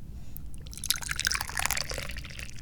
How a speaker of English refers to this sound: Because numbers are important, just like pouring tea into a cup is important.